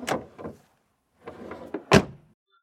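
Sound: car door slammed shut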